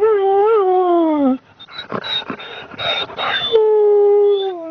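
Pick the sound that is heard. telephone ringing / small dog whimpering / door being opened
small dog whimpering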